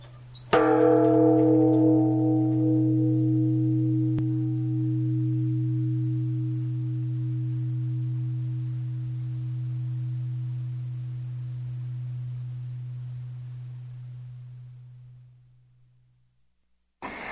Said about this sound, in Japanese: いかがですか？凛とした空気を震わす鐘の音、心が洗われませんか？約300年前と変わらぬ鐘の音です。